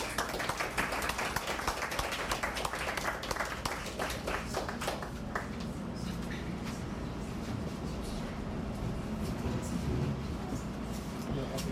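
An audience at a poetry open mic applauds with a dense burst of many hands clapping, strongest in the first few seconds, then thinning out and fading into low crowd murmur and background rumble.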